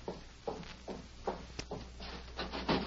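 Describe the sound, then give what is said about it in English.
Dull wooden knocks on a door early in the morning, about half a dozen uneven thuds spread over a few seconds, with some soft rubbing and shuffling between them; no one speaks. “Early the next morning, Ben and Tess Hastings heard a knock on their door.”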